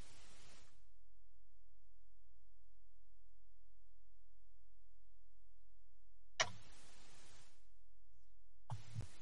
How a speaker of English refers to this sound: I was just adjusting my watch.